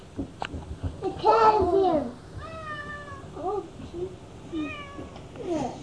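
A cat meows several times, one long drawn-out wavering meow followed by shorter plaintive cries, with some quiet background rustling.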